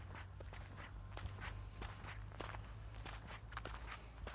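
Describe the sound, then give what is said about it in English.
Footsteps walk at a steady, even pace towards the roadhouse at Turkey Creek, each step a soft crunch, over a constant high-pitched insect drone and a low rumbling hum. No one speaks. “I walked towards the roadhouse.”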